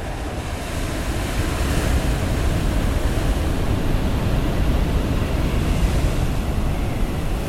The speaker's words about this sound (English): Well, the weather systems at sea are big. The weather is worse at sea because there's a longer fetch for the wind to blow over. And as a consequence, the waves are there.